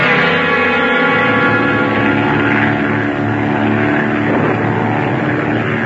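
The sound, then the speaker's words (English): A steady, monotonous engine drone hums on without a break, loud and unchanging, with layered low harmonics and a faint rough rasp over the top, like an aircraft propeller motor. “And that motor going on and on monotonously.”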